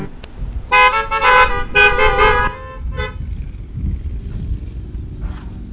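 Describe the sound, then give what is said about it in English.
Several car horns honk outdoors in a loud cluster of long blasts over about two seconds, followed by a shorter toot, with low traffic rumble and wind continuing underneath. “I would honk too if I had something to honk with up here.”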